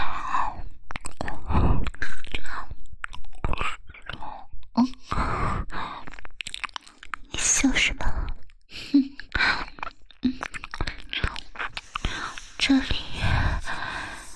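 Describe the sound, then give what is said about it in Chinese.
Wet biting and chewing mouth sounds come in irregular bursts, mixed with soft breathy whispers and sighs. “我不管，之前我什么都让着你，现在都要听我的，让我好好的咬一口。”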